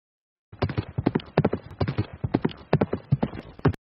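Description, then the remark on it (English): Rapid, steady clip-clop of a horse's hooves striking a hard road, fairly loud, with a brisk uneven rhythm of many hoofbeats for several seconds and no talking; Hendricks riding his horse the miles back from Flat Rock to Shelbyville, Indiana. “We see Hendricks now getting off his horse in Shelbyville”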